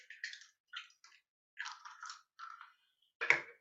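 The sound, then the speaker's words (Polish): An egg cracked into a glass: a series of dry, crackly shell crunches, then a short pause and one sharper, fuller crack with a wet squish. No one speaks. “Wbijamy je do szklanki.”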